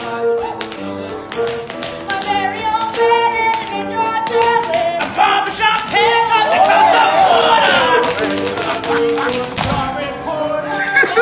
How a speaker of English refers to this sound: Notice how the crowd just instantly started screaming when bro said that line.